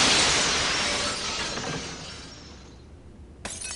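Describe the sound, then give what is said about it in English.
A large plate glass window shatters with a loud, bright crash, then glittering shards tinkle and rattle down as the sound fades, followed by a brief late clink of falling pieces. “I suppose I should mention the plate glass window...”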